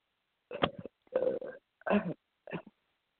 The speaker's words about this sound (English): Our Father in heaven, I thank you so much. Excuse me, I had to belch.